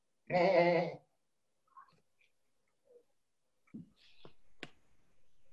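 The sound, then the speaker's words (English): A person gives one loud, wavering goat-like bleat lasting under a second, followed by scattered faint clicks and soft background noises. “I'm a goat.”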